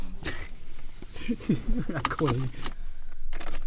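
Keys jangle in a few short metallic bursts, with a brief spoken exchange in the middle of the rattling.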